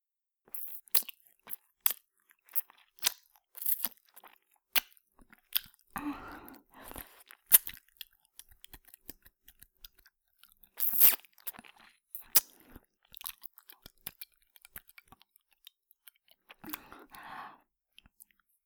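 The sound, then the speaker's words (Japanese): Wet ear-licking sounds: a steady, irregular stream of soft smacks, clicks and slurps, with a few longer breathy, squelchy bursts. No one speaks. “私の耳なめでおちんちんビクビクっと反応してるじゃないですか。”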